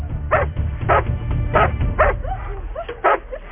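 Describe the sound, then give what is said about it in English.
A puppy barks repeatedly in quick, high-pitched yips, about five or six sharp barks mixed with short whiny cries, over a low rumbling background. “Okay, sit. Okay, baby. Puppy. Stay down.”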